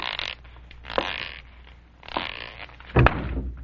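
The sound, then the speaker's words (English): Shuffling and rustling movements lead up to a single solid thump near the end as a person walks into an open closet door in the dark after a blown fuse put out the lights, with a brief rattle afterward. “Who left that closet door open?”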